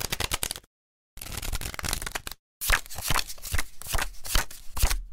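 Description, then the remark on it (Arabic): Playing cards are shuffled in quick riffling bursts for a game of conquian, a dense papery flutter broken by two short pauses, with no voices. “روقي كده وتعالي عودي نلعب لنا دور كون كان زي زمان، يمكن يا ست أكسبك مرة من نفسي.”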